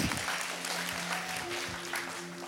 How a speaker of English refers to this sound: Most of you guys know my wife and I had our first boy. We can clap for that.